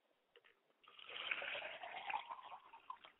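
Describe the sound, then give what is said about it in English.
Liquid is poured out as a libation to the north in a steady splashing stream that starts after a brief quiet moment and continues, moderately loud, with no talking over it. “We pour libations to the north, Father, to bless you.”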